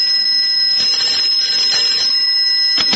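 A telephone rings with a loud, high-pitched metallic bell that jangles continuously for the full three seconds, with a few brief clattering knocks mixed in and no voices.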